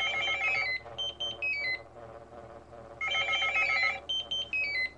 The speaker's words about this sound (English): But contemplation is constantly interrupted. First one phone rings, then another.